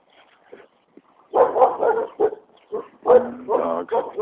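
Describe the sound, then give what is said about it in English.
Dogs bark in a run of irregular, fairly loud bursts, some sharp and some drawn out into whiny yelps, with brief pauses between outbursts. “Dogs.”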